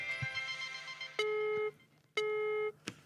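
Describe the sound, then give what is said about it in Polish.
A telephone line connection tone as a call is placed: a sustained harmonic tone followed by two identical long electronic beeps with a short pause between, plus brief clicks, loud with no talking. “Uwaga, wykonujemy kolejne połączenie. Tak jak kiedyś na audiotele się dzwoniło.”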